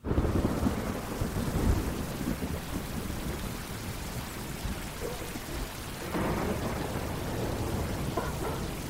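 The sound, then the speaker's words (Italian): Steady rain pours down in a broad, continuous hiss, with low rumbling swells like distant thunder underneath. No voices, just a dense, enveloping wet ambience that brightens slightly toward the end. “Cani, pioggia.”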